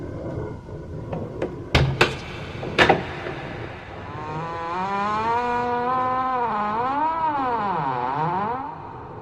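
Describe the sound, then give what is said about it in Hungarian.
Three sharp, solid knocks with an umbrella handle on a castle's heavy, nail-studded oak gate, then a long, loud creak as the gate turns on its hinges and swings open, the groaning pitch wavering up and down for several seconds. “Végre fölemelte esernyője nyelét, mely egy rész kacsafejben végződött, és megkopogtatta vele a kastély szögekkel kivert izmos tölgyfa kapuját, mire az legott csikorogni kezdett, mint valami élő lény, és megfordult sarkaiban.”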